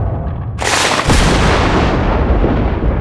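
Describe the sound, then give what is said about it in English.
A sudden, loud thunderclap bursts in with a sharp crack, followed by a second jolt and a heavy, roaring rumble that stays loud to the end. “Like a thunderclap.”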